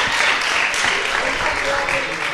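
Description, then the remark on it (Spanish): A crowd applauds steadily, a dense wash of many overlapping claps holding an even, fairly loud level throughout, with a faint murmur of voices underneath. “¡Aplaudí, aplaudí, hombre! ¡Estáis ahí con las ganas!”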